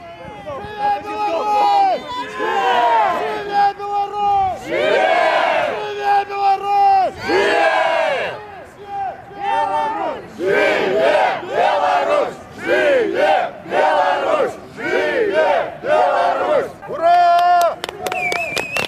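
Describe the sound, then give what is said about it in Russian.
A crowd of Belarusian diaspora members chants together at the "I'm walking" march in support of political prisoners, in loud, rhythmic bursts of voices rising and falling in repeated phrases with short pauses between, while scattered shouts and whistles cut through near the end. “Гэта акцыя «Я гуляю», дзе ўсе ахвотныя маглі памаржаваць.”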